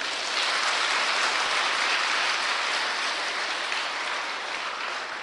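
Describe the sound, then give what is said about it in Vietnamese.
A crowd of young retreat participants applauds steadily for about five seconds, a dense, even wash of many hands clapping that stays loud throughout and tapers slightly at the end, with no talking. “Cho một tràng pháo tay.”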